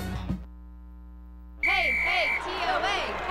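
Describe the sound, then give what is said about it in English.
After a brief voice and a low steady hum, a crowd bursts into loud cheering and yelling for the Tennessee Orthopedic Alliance (TOA), with a shrill whistle piercing through for under a second before the cheers carry on. “Oh, the TOA cheer.”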